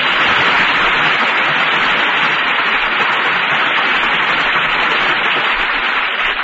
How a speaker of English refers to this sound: And here they are to receive our applause for three fine performances.